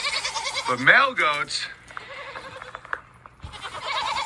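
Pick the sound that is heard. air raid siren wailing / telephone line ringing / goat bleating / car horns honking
goat bleating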